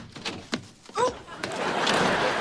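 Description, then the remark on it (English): A door opens with a couple of clunks and a short, rising creak, then a steady wash of background noise follows. It sounds moderately loud. “open the door.”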